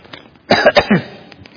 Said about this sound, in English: So my cough is the most important thing in the world at the moment, so I'm going to give that attention.